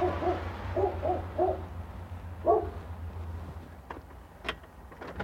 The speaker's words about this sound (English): Walking up to the door. I hear a dog.